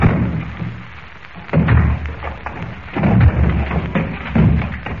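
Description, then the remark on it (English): A door being broken down with bare hands: three heavy, booming thuds about a second and a half apart, each with a rattling, splintering crash that lingers. No voices. “And what you used to break down that door with?”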